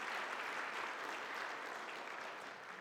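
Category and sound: crowd, audience round of applause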